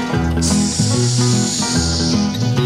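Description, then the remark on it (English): A voice imitates a snake with one long, steady hiss lasting about two seconds, loud, over a bouncy musical backing that continues throughout. “I saw the wild snake and the wild snake hissed.”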